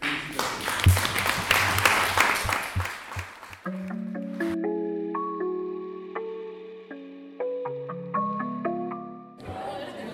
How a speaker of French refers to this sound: Et ces trois mots, c'est grâce au Conseil municipal des jeunes. On peut les applaudir.